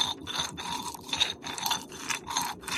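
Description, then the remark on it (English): Repeated gritty scraping and grinding strokes as cardamom pods are crushed and ground with brown sugar until smooth, like a pestle in a mortar, in a steady back-and-forth rhythm of about five bursts, moderately loud with no voices. “And then you're going to crush and grind until it's totally smooth.”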